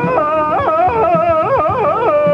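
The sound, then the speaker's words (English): A loud Tarzan yell, a sustained yodelling cry that warbles rapidly up and down in pitch for a couple of seconds, with no talking. “Let me hear your Tarzan yell so I can give them a time check.”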